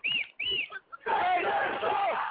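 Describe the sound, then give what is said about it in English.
A loud crowd of roughly a couple hundred protesters: two sharp, rising shouts ring out, then a dense, sustained roar of many voices yelling and chanting together. “I mean, that's how loud it is here.”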